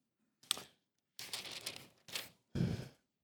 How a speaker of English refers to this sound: And if I can, verse 22. Just turning the pages